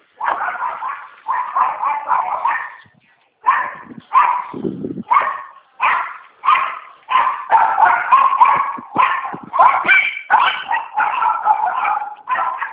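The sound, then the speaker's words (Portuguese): A pitbull barks repeatedly and energetically, rapid bursts of loud yapping and barking with brief pauses, one low growl-like stretch in the middle, no voices. “Pitbull tá bravo.”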